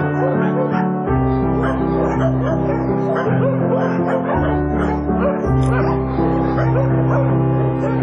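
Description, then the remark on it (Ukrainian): Many dogs at an animal shelter bark, yip and whimper at once in a loud, continuous, overlapping chorus that fills the whole stretch, never letting up. “Обычно я помогаю кормить будочных собак.”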